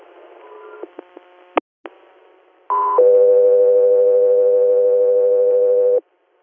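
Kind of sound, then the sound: signal or alarm, radio dispatch alert tones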